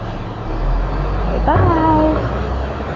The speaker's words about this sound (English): I'll go see the truck. See the big truck? Whoa, look at him go.